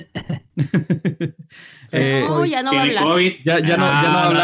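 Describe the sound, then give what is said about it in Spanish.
A person fakes coughing with a quick run of short, voiced bursts, then lets out a long, strained, wavering vocal sound that stays loud to the end. “haz el sonidito de toser para que sepan qué estás haciendo.”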